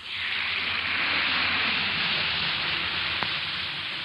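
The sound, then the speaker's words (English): An Alka-Seltzer tablet fizzes in water: a steady, dense hiss of tiny popping bubbles that holds at an even loudness for about four seconds, with one faint click near the end. “Listen to it fizz.”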